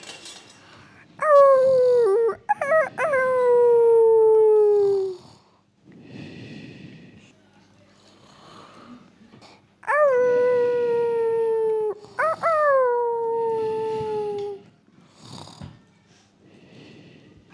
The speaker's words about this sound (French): Il y a un loup.